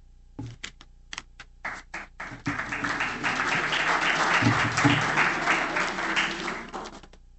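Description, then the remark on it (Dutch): Audience applause begins with a few scattered, separate claps, then swells into dense, sustained clapping that stays loud and steady before tapering off slightly at the end. “Ik ben blij met dat applaus, want dit werk verdient gewoon applaus.”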